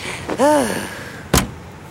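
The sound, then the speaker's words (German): A Trabant car door creaks with a short, whiny squeal, then slams shut once with a sharp, solid thud as people get in; otherwise quiet. “Sag bloß, du hast noch nie einen Trabant gesehen. Los, steig ein.”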